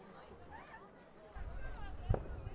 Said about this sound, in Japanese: うわ、目の前全部花火だよ。すごい。もう少し近づいてみよう。